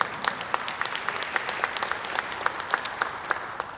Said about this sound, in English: If I were to go by the clapping, I'd say 25% of you are saved and the rest of you aren't.